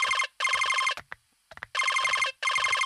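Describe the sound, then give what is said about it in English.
A phone call placed on speakerphone rings in two pairs of short, trilling electronic bursts, loud, with brief faint rustles in the gap between them and no talking. “He calls Floyd and places it on speaker.”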